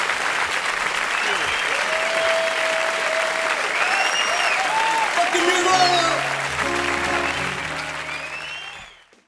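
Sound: concert crowd applause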